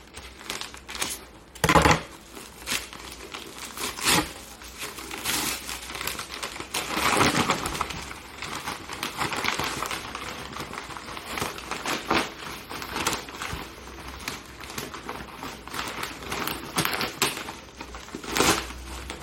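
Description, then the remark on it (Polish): Plastic foil packaging crinkles and rustles as the box of a Mobvoi Wear OS smartwatch is unwrapped, with irregular bursts of crackling, a few sharper snaps and tearing sounds, continuing steadily with no one speaking. “Będzie przy okazji unboxing.”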